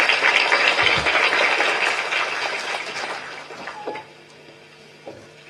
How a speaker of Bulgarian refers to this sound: Дами и господа, позволете ми да поканя на сцената господин Красимир Вълчев, министър на образованието и науката. Вашите аплодисменти.